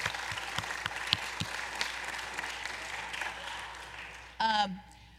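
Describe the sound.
An audience applauds steadily for several seconds, a dense, even patter of many hands clapping, then a single loud voice briefly whoops or calls out as it winds down.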